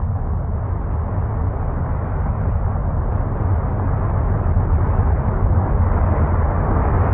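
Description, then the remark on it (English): A spaceship blasts off with a deep, continuous roar, a dense low rumble that holds steady and loud for several seconds and swells slightly toward the end. No voices are heard. “Let's hear them blast off.”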